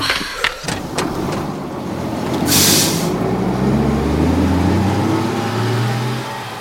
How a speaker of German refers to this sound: Hey, da kommt der Bus. Den können wir nehmen. Ja. Der hält doch an der Küstenstraße. Unten beim Felsenhaus.